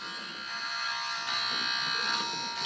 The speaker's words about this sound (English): So, okay. So do you want to test the buzzer? Go ahead and test the buzzer.